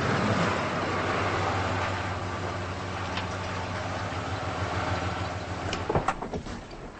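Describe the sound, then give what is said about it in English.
A car engine hums low and steady as the car pulls into a house's driveway and settles, then a few sharp clunks and rattles sound near the end. “Ellie pulls into the driveway.”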